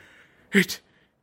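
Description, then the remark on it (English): A quick pair of heavy, voiced panting breaths from the Grinch, breathing hard at the top of Mount Crumpet with an overloaded sleigh, then silence. “Grinch, breathing hard.”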